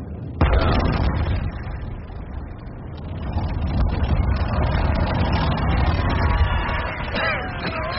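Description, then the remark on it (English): A factory chimney demolition blast goes off with one sharp, booming crack, then rolls into a long, heavy rumble of the tall chimney collapsing. The rumble stays loud for several seconds. “We've got another factory chimney tomorrow, haven't we?”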